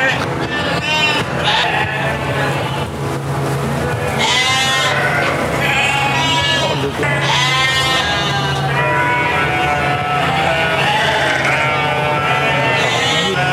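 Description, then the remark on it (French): A flock of about 380 ewes in a milking parlour bleats loudly and almost continuously, calls overlapping, over a steady low mechanical hum like milking equipment running. “En ce moment, 380 brebis, on met entre 1h15 et 1h30, matin et soir.”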